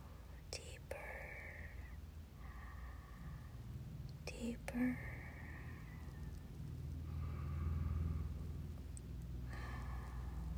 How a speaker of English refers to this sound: Listen to the sound of my breathing. Let the sound of my breathing take you deeper.